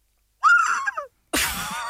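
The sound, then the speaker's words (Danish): A person imitates an eagle's cry with two loud vocal screeches: a shrill call that wavers and drops, then after a short pause a harsher, raspier scream held to the end. “Det er jo kun fordi, vi gik i gang med at forsøge at gengive den.”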